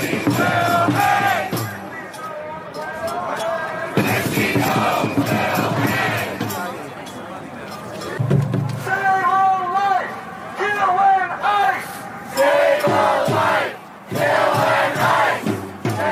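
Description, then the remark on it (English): A crowd of thousands in New York screams and chants in unison, calling for the hanging of Kristi Noem and the murder of ICE agents, many overlapping voices rising into loud, rhythmic shouted bursts with brief dips between them, the roar staying dense and sustained throughout. “From this, as we went into the weekend, a mob of thousands in New York screaming for the lynching, for the hanging of Kristi Noem and the murder of ICE agents.”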